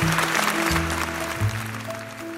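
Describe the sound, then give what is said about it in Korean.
An audience at a 2017 award ceremony of the National Endowment for Democracy in Washington applauds a North Korean defector taking the stage, a dense, steady patter of clapping mixed with sustained musical tones that shift pitch a few times. No one speaks. “청중의 박수를 받고 연단에 올라간 탈북자는 식량을 구하러 나섰다가 철로 위로 떨어져 팔과 다리를 한쪽씩 잃은 장애인 한국 내 탈북자 구출 단체 나우의 지성호 대표입니다.”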